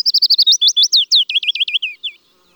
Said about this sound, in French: Le pouillot Fitis et sa jolie chanson sifflée et descendante.